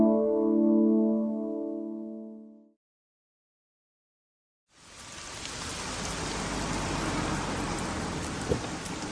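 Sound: rain falling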